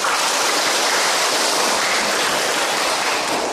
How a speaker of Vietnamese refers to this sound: Cho một tràng vỗ tay.